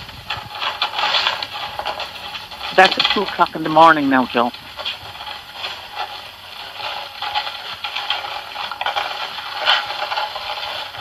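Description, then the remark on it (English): Rats scurrying at night, a steady dry scratching and scrabbling that runs through the whole recording with small bursts of louder rustling, briefly interrupted by a man speaking a short sentence. “I haven't heard this recording of the rats.”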